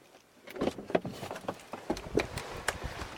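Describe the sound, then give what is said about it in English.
A car door unlatches and swings open as the driver, having taken the keys out of the ignition, gets out; a string of clicks, thumps and rustling clunks spread over a few seconds, with no one speaking. “And let's open the door.”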